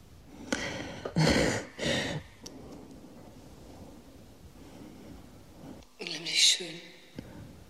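A young woman breathes audibly, recorded by two microphones in Baden-Baden for Ferrari's 15-minute experimental piece: three quick, airy breaths in a row, a stretch of near-quiet, then a longer, voiced, sigh-like breath. No words are spoken.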